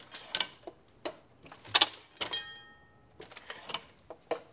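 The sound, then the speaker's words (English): A printing press clanks and clatters in a steady mechanical rhythm, and a small bell, struck by a simple mechanism at the back of the press, rings once with a clear, lingering ding over the machinery, moderately loud. “The ding, ding, ding is just sweet. It's just a little extra. It's not necessary to the operation of the press.”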